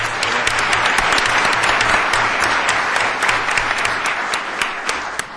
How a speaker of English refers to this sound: I don't know if it's going to happen this time, but it seems like every time the comptroller of the state of New York gets introduced, he gets more applause than anybody else.